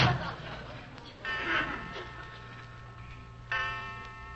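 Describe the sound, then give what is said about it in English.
A clock strikes 12 o'clock with two resonant, ringing strikes a couple of seconds apart, each tone lingering and fading, against a quiet, slightly muffled background. “Jerry, listen. 12 o'clock.”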